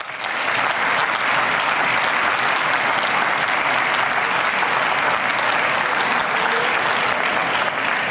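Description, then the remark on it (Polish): Sustained audience applause at an awards ceremony, a dense wash of many hands clapping at steady loudness for several seconds, with no talking over it. “Brawa również dla wszystkich.”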